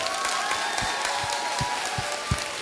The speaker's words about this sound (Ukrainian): Тому низький-низький уклін, давайте гучні аплодисменти для неї.